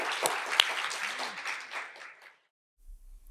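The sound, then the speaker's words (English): An audience at the C.S. Lewis Festival in Petoskey, Michigan, breaks into applause for the festival, a dense crackle of many hands clapping at once that gradually thins and dies away after about two seconds, leaving near silence with a low hum. “And I think that we need to applaud the festival for that, because that is brave.”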